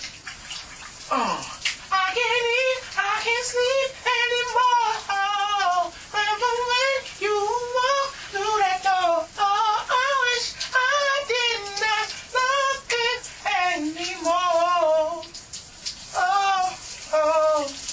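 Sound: shower water running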